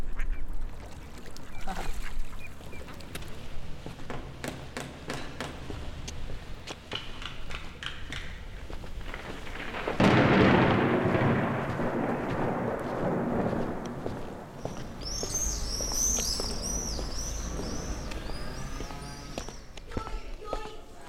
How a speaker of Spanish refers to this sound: Esto eran los fuegos artificiales en la nit de San Juan, en una ciudad.